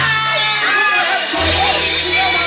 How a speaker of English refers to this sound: The wild shouts from the crowd sent me running back.